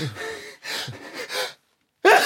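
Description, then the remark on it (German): A drawn-out sneeze in a bicycle shop by a person with a cat allergy: three breathy, gasping inhales build up, then a brief silence before a sudden loud burst at the end. “Na, so etwas. Gesundheit.”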